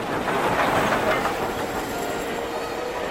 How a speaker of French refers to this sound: Sur le quai de la gare, et il y a un train.